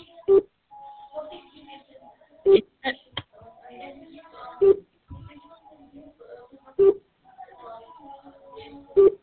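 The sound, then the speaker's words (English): A telephone call tone beeps five times at a steady pace, roughly two seconds apart, each short low-pitched beep standing out clearly over people talking quietly in between. “call is coming in. Beep, beep, beep, beep.”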